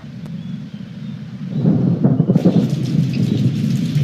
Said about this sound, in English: Just after 4 p.m., it starts to rain. Ash blows in on a north wind.